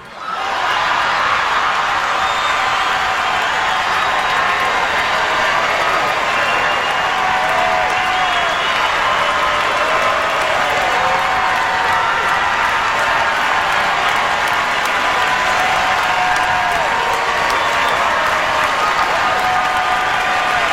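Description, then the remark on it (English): Thousands of people in Radio City Music Hall give a standing ovation after an actor swears about Donald Trump, applauding loudly and steadily for about twenty seconds, a dense wall of clapping mixed with cheers and whistles that never lets up. “That went on and on and on. Standing ovation.”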